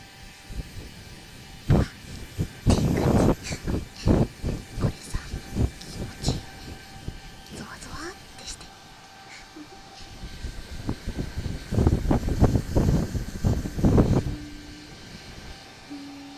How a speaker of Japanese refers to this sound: ほら、どうでもいい子羊ちゃん、このドライヤーの風が耳に当たる音。